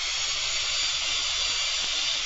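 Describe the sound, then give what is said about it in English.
A person imitates a drill with a steady, hissing buzz, held without a break for a couple of seconds, fairly loud with no words. “Just stand up and make the drill go around and around, and I'll make some drilling kinds of noises.”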